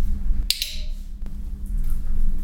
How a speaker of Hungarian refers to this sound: Most ez a klikker az azt jelenti, hogy... Az a jutalom.